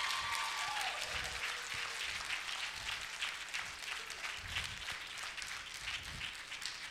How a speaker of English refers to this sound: Now, we clap now